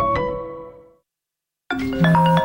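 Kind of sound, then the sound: signal or alarm, telephone ringing unanswered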